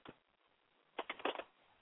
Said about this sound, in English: It sounds like 919 is typing.